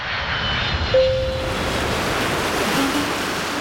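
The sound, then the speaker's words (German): Steady, full-bodied rush of sea waves breaking on the shore in Greece, a continuous washing roar that swells slightly now and then, moderately loud, with no voices. “Azurblaues Meer, weiße Häuserfassaden, strahlender Sonnenschein.”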